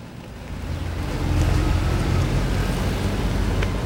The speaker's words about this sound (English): After a few moments, a green car pulls up and stops a little ahead of him.